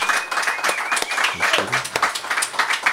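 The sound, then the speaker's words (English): A live audience bursts into sustained applause for themselves at the end of a live recording, dense overlapping claps with a few voices and cheers mixed faintly into the clapping. “Give yourselves all a big round of applause.”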